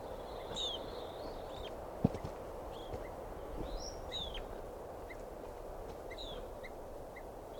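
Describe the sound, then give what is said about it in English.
Sharp, repeated bird alarm calls ring out at fairly regular intervals, clear, over a steady outdoor hiss with a few soft footstep-like thumps as someone walks toward the calling bird, and no voices. “I think the alarm calls now.”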